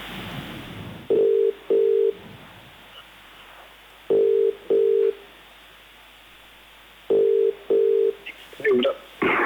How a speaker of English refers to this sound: but then I realized that the sound of static is kind of the sound of distance. It's as if this technology brings us closer together, but then when it fails us, it just forces us further apart. So to me, this static is a reminder of that distance.